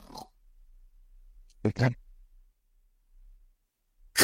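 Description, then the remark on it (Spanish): A voice imitates the loud, rasping nighttime snoring of obstructive sleep apnea: a short snort, then a gap of near silence like held breath as breathing is cut off, and another harsh snore bursting out at the end. “Entonces, lo que se nota de forma muy habitual en la apnea y hipopnea obstructiva del sueño es un ronquido nocturno de gran intensidad que a veces, o con mucha frecuencia, llega a cortar la respiración.”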